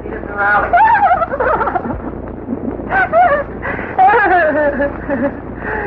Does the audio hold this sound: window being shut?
no